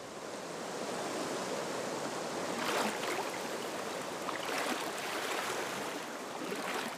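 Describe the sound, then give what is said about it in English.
Water of a cold river rushing steadily, a dense continuous wash of sound with a few slightly louder surges and splashes. No voices are heard. “Oh, that river was cold enough to freeze blood.”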